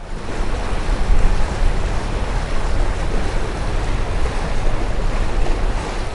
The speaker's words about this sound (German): Mit voller Kraft pflügt sich die Nubian Sea durch die riesige Wasserfläche des Nassersees, der eingebettet liegt in rotfarbene Wüste und felsgraue Hügel und Bergzüge, eine atemberaubende Szenerie.